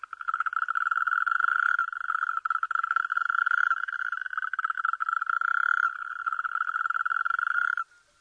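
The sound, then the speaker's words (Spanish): Two natterjack toads call from half-waterlogged ground in the foreground, one soon joined by a second, with a loud, unbroken rattling trill that carries steadily for about eight seconds, with no voices, ending abruptly. “En un primer plano, en el suelo medio encharcado, escuchamos a un sapo corredor que no tarda en ser acompañado por un segundo ejemplar.”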